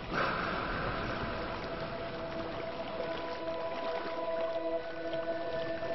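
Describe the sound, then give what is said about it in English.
Galapagos sea lions, a separate species isolated on the Galapagos, call with drawn-out, tonal moans and bleats that overlap and shift in pitch above a steady wash of water noise. No one speaks. “Sea lions.”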